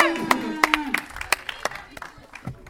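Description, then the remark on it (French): A handful of sharp hand claps ring out unevenly, like a small group applauding briefly after someone correctly guesses Metapod in a guessing game, with some faint voices and tonal sound underneath at the start. “On applaudit la Metapod.”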